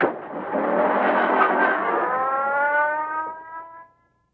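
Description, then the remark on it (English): A car engine revs and pulls away, its steady droning pitch shifting slightly as it accelerates, then fades out quickly, leaving silence at the end. “Harry bounds into his car.”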